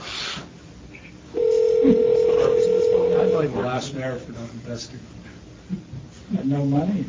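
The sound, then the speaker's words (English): A loud, steady telephone dial tone hums for about two seconds as a call is placed, then gives way to muffled talking as the call connects. “we're going to keep you on my phone, Joe, and I'm just going to try …”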